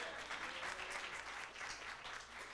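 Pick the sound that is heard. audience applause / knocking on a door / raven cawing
audience applause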